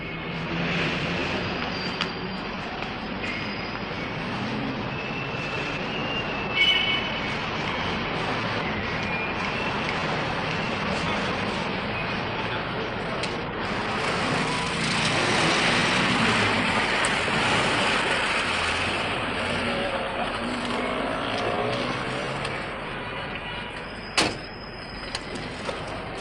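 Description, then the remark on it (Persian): An old, worn-out car drives steadily, its engine and road noise forming a constant rumbling hiss, with a short rattling clunk near the end. No one speaks. “البته محافظی هم دارن و برای اینکه جلب نظر نکنن از یک ماشین فرسوده استفاده میکنن.”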